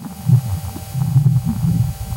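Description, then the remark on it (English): A low, muffled rumble throbs unevenly in soft pulses, like faint wind buffeting a microphone, recorded by one of two microphones on the Perseverance rover on Mars. It is steady and dull, with no voices or sharp sounds. “And there are two microphones on the spacecraft, so there's just a bit of audio.”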